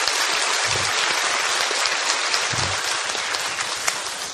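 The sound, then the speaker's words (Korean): An audience at a church worship service applauds steadily, giving thanks and glory to God after the choir's praise. It is a dense wash of many hands clapping at once with no pauses, sounding much like heavy rain. A couple of low thumps show up within the applause. “우리 주사랑 찬양대의 귀한 찬양과 또 여러분의 귀한 예배 또 6일 동안 귀한 섬김을 통하여서 우리 영광받으신 하나님 앞에 감사와 영광 박수 올려드립니다.”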